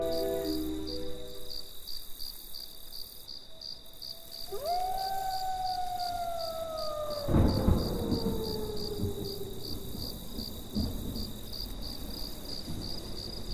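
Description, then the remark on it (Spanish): A tremendous thunderstorm at night by a roadside: a sharp thunderclap breaks out midway and rolls into a low rumble, while crickets chirp steadily throughout and a long, falling howl-like tone drifts over the scene. “Hace autostop mientras estaba cayendo una tormenta tremenda.”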